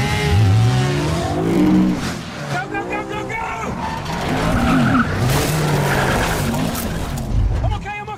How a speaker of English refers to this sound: So, we're recording the show in the back of a car with a motorcycle gang chasing us.